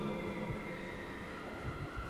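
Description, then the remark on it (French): Echoing interior of the cathedral of Saint-Malo, France: a steady, hollow room tone with a low rumble and soft hiss, faint indistinct murmurs rising and falling underneath, and no clear voices. “Vous l'entendez, ça résonne.”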